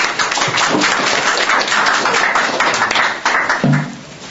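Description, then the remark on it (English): An audience applauds, welcoming a speaker from the New York City Economic Development Corporation, in a steady, dense wash of clapping that holds at a fairly even loudness for several seconds before thinning slightly at the end. “So give her a big hand of applause.”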